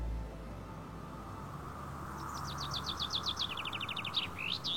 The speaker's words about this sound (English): Listen to the night breaking. Chaffinches squabbling for the best place on the branch.